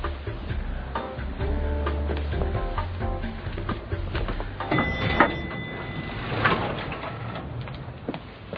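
A door opens close by, with a drawn-out creak, a couple of sharp latch clicks and a soft thud, all over a steady low rumble.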